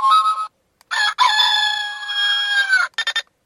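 The alarm sound setting of a portable alarm clock with a flip-out stand plays a recorded rooster crow: a short bright burst, then a long drawn-out crow lasting over a second, ending with two quick clipped bits. No one speaks.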